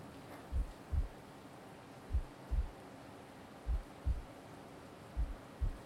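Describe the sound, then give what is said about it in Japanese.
A slow, steady heartbeat thumps muffled, four lub-dub pairs evenly spaced over a soft low hum, with no voices. “心臓の音はね、お母さんのお腹の中にいる時と同じ音なんだって。”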